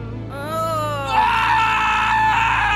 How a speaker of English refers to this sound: The thief dropped the ring and ran, screaming so loud and hard he thought he might never stop.